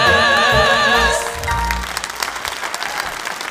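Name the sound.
audience applause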